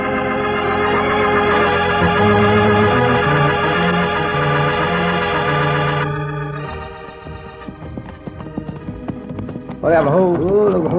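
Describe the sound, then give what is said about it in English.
Horses' hooves clip-clop in a steady trotting rhythm as riders near a bandits' camp on a clear moonlit night, first beneath loud orchestral music, then more clearly on their own before a man's voice starts speaking. “Leave our horses here, Pancho.”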